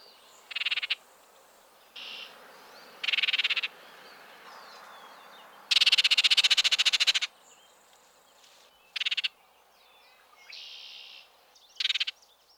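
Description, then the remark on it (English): An oriole's harsh chatter: a loud, rasping rattle lasting over a second, set among several short, bright call bursts spaced irregularly, with no talking. “At times, the best vocal key to this bird's presence is the harsh chatter that often accompanies the song.”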